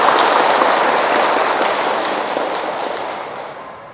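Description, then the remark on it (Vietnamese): A Buddhist audience claps as a pledge of commitment, steadily, in a dense, unbroken wash of applause that starts strong and gradually fades over a few seconds, with no voices heard. “Nếu quý vị quan hệ với việc này thì xin cho một tràng vỗ tay để cam kết.”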